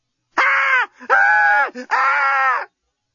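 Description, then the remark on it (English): A woman tied down onto a bed lets out three loud, drawn-out screams in quick succession, each held steady for about half a second, with a brief gasp between them and no other sounds. “Lucy had never screamed so well or so effectively in her life.”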